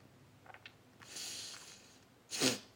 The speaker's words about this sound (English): Oops, sorry. My nose is sniffling.